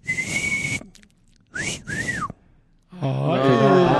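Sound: person whistling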